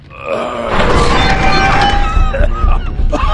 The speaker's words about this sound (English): At the base of the ruined bridge tower, Casacampo had his crew clear the entrance to the stairwell, which was blocked by fallen debris from the shelled structures above. Delore yanked on the twisted door.